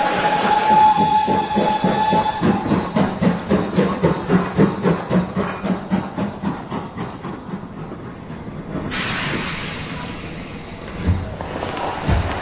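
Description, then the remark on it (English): A train pulls into a station with a steady rhythmic chugging that slows down, then a long burst of hissing steam as it comes to a stop, fairly loud. “It says, here comes the train now.”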